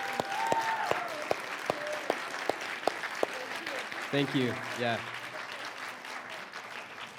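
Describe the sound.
An audience claps steadily for several seconds to honor two pastors who stand up, a dense patter of hand claps with a few sharper ones standing out, while a voice briefly speaks over the applause.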